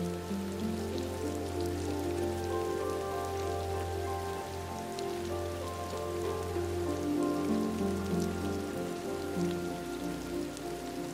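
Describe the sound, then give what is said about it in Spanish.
Steady rain falls on a garden with trees and rocks and onto a koi fish pond, rippling its surface: a dense even patter of drops with a low background hum, continuous, with no voices. “El jardín parece respirar con la lluvia, que cae también sobre un precioso estanque de peces koi situado frente a ti, creando preciosas ondas en la superficie.”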